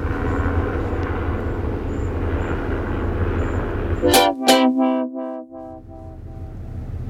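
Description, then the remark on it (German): A red helicopter circles overhead in a steady, fairly loud rumble; partway through, a brief harmonic horn-like blast cuts in before the engine noise resumes. No one speaks. “Ja, ein roter Hubschrauber, weiß nicht, ob die Farbe von irgendeiner Bedeutung ist, der hat jetzt über mir eine Schleife gezogen und ist wieder weg.”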